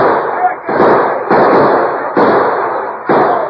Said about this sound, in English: He ordered the others to open fire. The bullets whined past the masked man and the Indian, but they stood their ground.